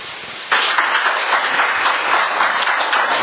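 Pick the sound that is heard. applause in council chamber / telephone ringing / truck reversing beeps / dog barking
applause in council chamber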